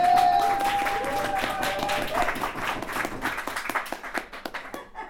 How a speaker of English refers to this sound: Okay. Folks, can you give a huge round of applause for